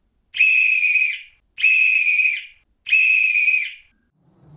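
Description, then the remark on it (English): A silver whistle is blown three times, each blast a loud, steady, shrill tone lasting under a second, evenly spaced with short pauses between, followed by a faint low rumble. “When the wicked witch looked out again and saw all her crows lying in a heap, she got into a terrible rage and blew 3 times upon her silver whistle.”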